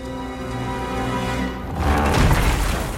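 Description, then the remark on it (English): A steady tonal drone gives way abruptly to a loud explosion in a rec room, a broad roaring blast with crashing, splintering furniture debris that rumbles on for about a second. “The Dogpatch rec room is strewn with shattered furniture from the explosion.”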